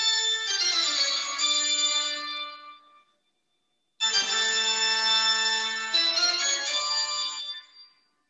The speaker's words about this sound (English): Pretty iconic. Yeah, very iconic. In case you don't, it is Bach's Toccata and Fugue in D minor.